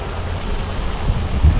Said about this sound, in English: I might need to get another umbrella. This is insane. Podcasting in the rain. Podcasting in the rain. Ah! I'm wet. And it's downpouring.